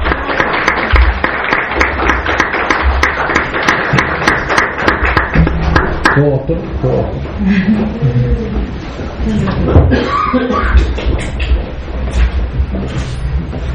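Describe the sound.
A crowd bursts into loud, dense applause with many overlapping claps for several seconds, then the clapping thins out as voices start talking over it.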